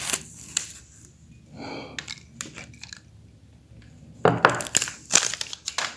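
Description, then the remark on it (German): Kitchen handling noises while preparing food and putting a pickle into a jar of hot water: a series of sharp crinkling and crunchy clicks, sparse at first, then a busier cluster of rustles and knocks toward the end, with no voices. “Jetzt wollte ich gerade die Gurke in das Glas mit dem heißen Wasser tun.”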